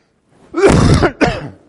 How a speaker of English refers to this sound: Ooh, you know, the only problem with coughing in your what is this, elbow? That all the noise reverberates back. See, if I just cough out there, the noise just goes away.